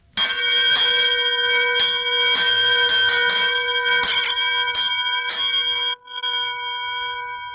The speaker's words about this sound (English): Well, as you may know, in Switzerland, all the cows, when they go out in the field, they do wear a bell. And this seems to be the handy instrument to have for the boys and girls to make noise with. How does it sound?